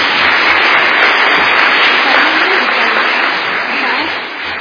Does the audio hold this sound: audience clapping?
yes